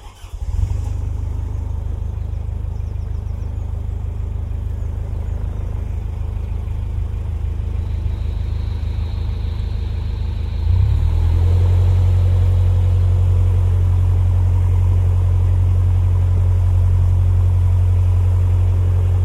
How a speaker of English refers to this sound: I'm on the Grand Union Canal, somewhere between Gayton and Stoke Bruin. I'm on my boat, Storymaker, and this is what it sounds like.